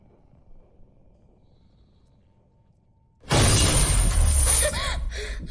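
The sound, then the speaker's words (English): Inside a dark underground shaft, after about three seconds of low, quiet rumble, the heavy chains secured to the wheel of a metal hatch burst into a sudden loud metallic rattle and clank as something thrusts against the hatch door, continuing harshly and easing slightly toward the end. “The chains rattle as something thrusts against the hatch door.”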